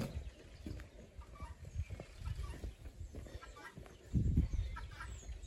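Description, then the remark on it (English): Chickens and guinea fowl cluck and call softly around an outdoor farmyard, with a bustle of low scuffling and a louder burst of activity near the end. “Chickens, guinea fowl.”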